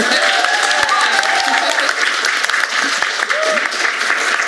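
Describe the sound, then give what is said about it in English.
An audience bursts into loud, sustained applause for a panel of creatives at the end of a panel session, dense overlapping clapping holding steady for several seconds with a few faint voices and whoops mixed in. “This is where you applaud them, please.”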